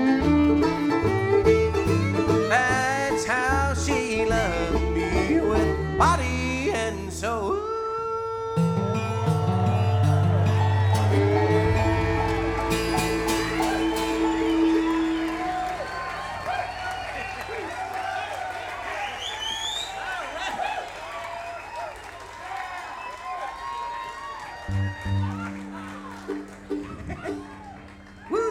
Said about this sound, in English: Enthusiastic crowd. I like that.